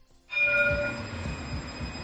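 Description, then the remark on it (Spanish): A tram in Jaén, Spain, rumbles along its rails on a run, wheels clattering rhythmically, while a bright bell rings out over the rolling noise. It is steady, with no voices. “En esta ciudad el tranvía está por fin un poco más cerca.”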